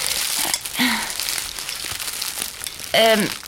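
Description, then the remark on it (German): A paper bag full of tomatoes crinkles and rustles steadily for several seconds as it is handed over, a dry papery scratching texture, with a couple of short voiced sounds from a person breaking in. “Hier hast du die Tüte.”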